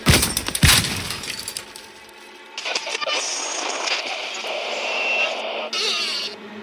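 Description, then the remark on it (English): In a workshop, a hammer smashes into a plastic radio on a workbench with a few loud, sharp cracking blows, scattering plastic shards. A steady harsh crackling and buzzing follows for several seconds as the radio sizzles and loses power. “He pulled out a hammer from his toolbox and smashed it against the radio, leaving plastic shards all over his workbench.”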